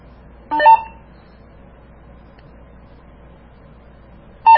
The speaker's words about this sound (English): Let it sit. It will save itself. Make a little beep to let you know that it's done.